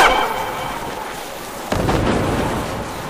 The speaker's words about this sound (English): Roxanne, that sounded like thermite.